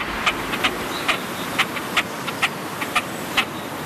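A great crested grebe calls in a series of about nine short, sharp, high notes spaced roughly half a second apart over a steady hissing background, with no voices.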